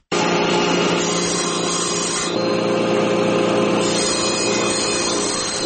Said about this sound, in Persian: تخته چوبی را با اره برقی می‌برد تا برای یک از مشتریانش در هرات میز غذاخوری بسازد.